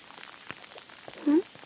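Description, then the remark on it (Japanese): Steady rain patters in a soft, diffuse hiss, with a brief low vocal sound breaking through near the end. The rain is not letting up and seems to be getting a little heavier. “全然止まないね。むしろ少し雨足強くなってる気がする。”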